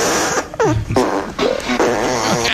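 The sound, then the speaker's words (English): A loud, sputtering fart sound effect plays, a series of wet, buzzy bursts with wavering pitch lasting a couple of seconds, with no talking. “I've got fart dash blazing.”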